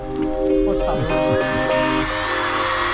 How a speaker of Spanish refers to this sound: está la gente gritando cuando ha salido Paco